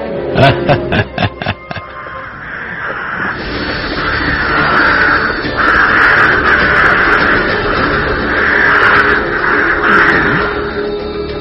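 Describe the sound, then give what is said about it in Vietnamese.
Loud, raucous crow caws on a moonlit night: a quick burst of about six sharp calls, then a dense, continuous chorus of harsh cawing from many birds, unbroken. “Đêm trăng sáng như ban ngày, những con quạ tưởng là trời đã sáng nên mới bay và kêu inh ỏi.”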